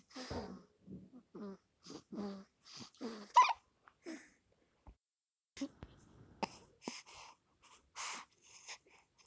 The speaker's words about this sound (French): Et il a le hoquet.